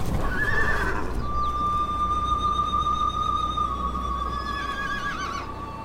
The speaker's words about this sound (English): Have the horses passed? You're safe. I feared they might trample me to death.